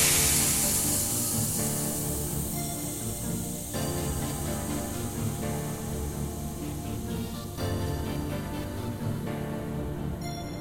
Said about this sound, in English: Request received. Beginning cryogenic thaw now.